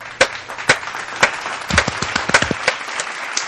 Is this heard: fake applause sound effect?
yes